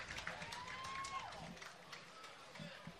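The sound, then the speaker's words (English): A baseball stadium crowd cheers and applauds in a steady roar after a fan makes a one-handed catch of a foul ball, with a brief rising whistle cutting through early on and scattered voices mixed into the din. “There's two sounds when a ball goes into the crowd. That's the good sound.”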